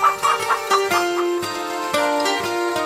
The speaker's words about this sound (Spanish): Lo colocó en el gallinero junto con las gallinas.